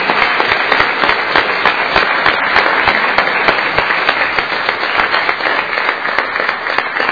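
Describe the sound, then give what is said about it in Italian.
A crowd at a city council meeting applauds the council representatives steadily for about seven seconds, with many overlapping claps forming a dense, loud, crackling wash that holds at an even level throughout, with no talking. “E un applauso a tutti loro che sono i rappresentanti anche di tanto che sono al lavoro.”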